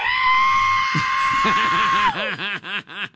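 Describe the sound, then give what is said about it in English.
A voice imitates the sound of an F-35 fighter jet. A sustained, high whistling screech holds steady for about two seconds, then slides downward into a warbling, pulsing trill that fades out. “I saw that between a screech and a whistle.”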